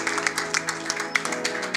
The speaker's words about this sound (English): Please stand up on your feet. I believe it's a good place to clap your hands. You want to clap? Clap your hands better.